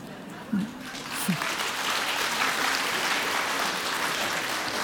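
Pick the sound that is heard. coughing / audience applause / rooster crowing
audience applause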